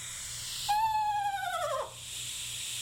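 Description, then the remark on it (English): A screech owl's quavering trill call, played as a recording on a phone: a single clear phrase lasting about a second that slides downward in pitch, heard alone over a faint steady background hiss. “Here's the screech owl.”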